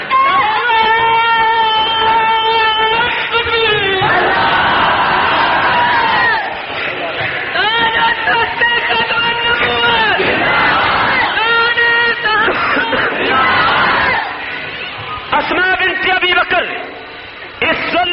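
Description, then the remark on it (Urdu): A loud crowd chants slogans in unison, voices rising in repeated sustained bursts with short dips between phrases, continuing steadily for the whole stretch. “نعرے دی تو بڑی چس آ گئی”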